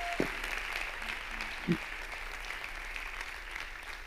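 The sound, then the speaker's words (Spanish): Steady applause from a church audience clapping for God, a broad wash of clapping with a couple of louder thumps near the start, continuing evenly throughout without speech. “Dale un aplauso a Dios para animarnos, iglesia.”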